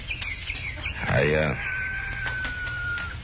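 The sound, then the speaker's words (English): Farm hens being fed call out, one giving a loud rising squawk that stretches into a long, drawn-out cry, with faint barnyard noise behind it. “You just wait till I finish feeding these hens.”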